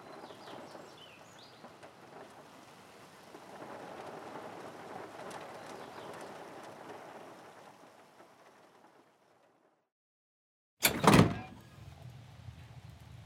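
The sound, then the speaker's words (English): Steady rain falls on a farm from dark skies, pattering and hissing for about nine seconds, then falls quiet for a moment before a sudden loud, sharp burst cuts in near the end. No voices are present. “You slowly unlock the door as the rain begins to fall on the farm from the dark skies above.”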